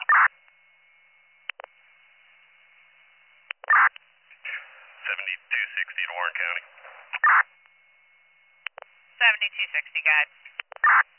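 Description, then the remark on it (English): Warren County radio dispatch paging tones, sent with no message, come through a narrow, tinny channel as several short, loud beeps spread apart, with squelch clicks and brief garbled voice transmissions between them. “We had tones, but no message.”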